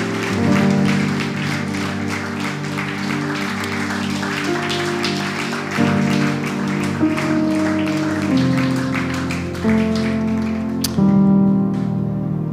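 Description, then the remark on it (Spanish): An audience applauds God steadily for about twelve seconds, dense rapid clapping throughout, while sustained organ or keyboard chords shift underneath. “De un aplauso a nuestro Dios que nos ha dado esa paz tan asombrosa.”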